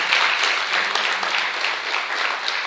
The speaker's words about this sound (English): Amen. You got a hand clap for that.